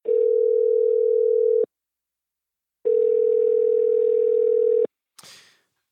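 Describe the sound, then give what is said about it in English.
A telephone tone on a Friday-night phone call sounds in two long, steady electronic hums separated by a pause of silence, then a brief crackling click as the line connects. No one speaks. “And then Friday night, we got on the phone one last time.”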